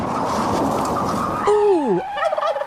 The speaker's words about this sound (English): Ooh! Ouch! Was that a big bird?